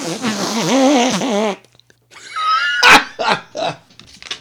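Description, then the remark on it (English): A hand-made fart noise: a loud, wobbly, buzzing squelch lasting over a second, then after a short pause a string of rougher, choppy bursts. “Make a fart noise with your hand?”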